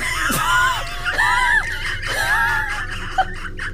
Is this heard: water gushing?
no